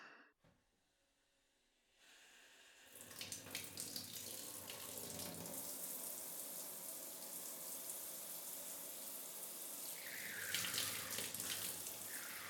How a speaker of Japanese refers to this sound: 寒くない？大丈夫？お湯かけてあげるね。